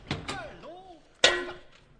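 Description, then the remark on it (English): A single sharp metallic clang rings out loudly as a head is hit with a shovel, and decays with a lingering tone, preceded by brief vocal sounds. “Hit it with this hammer.”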